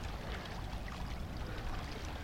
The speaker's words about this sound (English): This show being recorded with next to by the bay. Maybe you can hear the water, the sounds of the water up with the rocks.